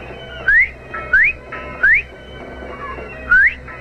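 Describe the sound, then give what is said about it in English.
A person whistles three short rising notes in quick succession, pauses, then gives one more rising whistle, clear over a faint background hum. “Whistle 3 times, then once, like this.”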